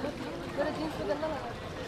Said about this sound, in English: Here's a boatload of tourists just coming in from the river. Maybe 20 or 30.